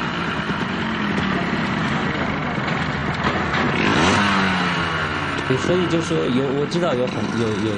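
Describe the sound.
A motorcycle engine runs loud throughout in the motorcycle scene of the film Plaisir d'inconnu, its pitch sweeping up and down as it revs several times, with voices faintly audible underneath.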